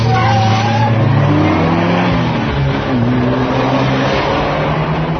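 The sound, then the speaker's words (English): A car accelerates hard with its tires skidding. The engine roars loud, its pitch climbing through gears over a constant wash of road and tire noise for several seconds. “I'm going to show you what this car can really do.”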